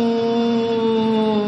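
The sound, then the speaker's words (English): A group of people hums together on one steady, sustained low note, loud and unbroken throughout, with no talking. “Slowly go back to the humming.”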